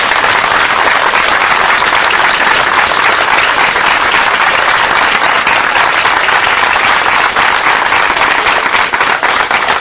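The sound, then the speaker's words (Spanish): A large audience in Totana claps steadily for about ten seconds to welcome a speaker, the Izquierda Unida más Los Verdes candidate for the autonomous community. It is a dense, loud, continuous wash of applause with no voices standing out and no breaks in the sound. “Sin más, lo recibimos con un fuerte aplauso.”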